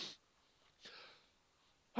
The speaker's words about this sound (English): Oh, thought I was going to sneeze then, but it's not coming. There we go. Excuse me.